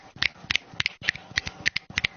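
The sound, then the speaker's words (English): A quick run of about a dozen crisp finger snaps, made by women at a debate as gentle applause instead of clapping, falling in loose pairs with brief gaps between, with no voices over them. “They would clap, because they thought clapping is very aggressive. It's too aggressive. Yeah. It's too aggressive. This is like gentle.”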